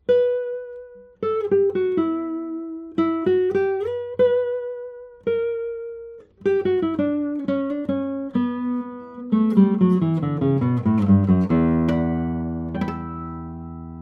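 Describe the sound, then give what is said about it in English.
A traditionally built acoustic guitar plays a flowing passage of plucked notes and chords, ringing and resonant, with a descending run that settles into a full, sustained final chord. No one speaks. “I mean, for a traditionally built guitar, it's sounding very loud and big.”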